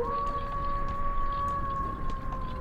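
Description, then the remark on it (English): A long, steady wolf howl holds one sustained pitch for several seconds, loud and unbroken, over a low, rumbling background with no talking. “The wolves don't come out until after midnight.”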